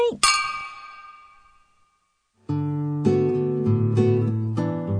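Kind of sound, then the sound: household object, glasses clinking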